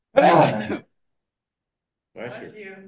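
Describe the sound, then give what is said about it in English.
A single loud, forceful sneeze bursts out during an online meeting, followed by about a second and a half of silence and then a short, low voiced murmur. “Bless you.”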